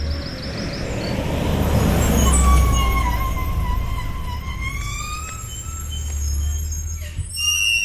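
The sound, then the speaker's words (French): A large bus rumbles, its engine low and steady while high brakes squeal and hiss as it slows to a stop, then idles. “Regarde, il y a un bus.”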